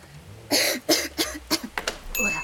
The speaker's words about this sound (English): I heard coughing.